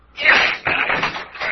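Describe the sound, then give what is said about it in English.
A heavy locked door is forced open by blows from a chair, crashing open with a loud wooden bang, followed by a rough scraping, splintering rattle as it swings and settles, forceful. “Now then, we'll see how strong that lock is.”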